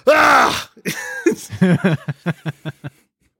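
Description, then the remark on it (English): A single voice imitates a crowd groaning at a missed set shot in a football game: a loud, wavering, drawn-out groan, then several short, evenly spaced vocal bursts that gradually fade away. “Missed set shots also have the funniest sound because so many times someone will kick it and just hear...”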